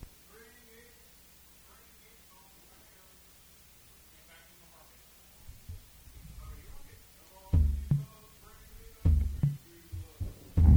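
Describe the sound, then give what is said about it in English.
A person's heartbeat: low, muffled thumps build in the second half, growing louder and heavier, over a faint static hiss, with quiet indistinct voice-like sounds earlier on. “That's my heart beating.”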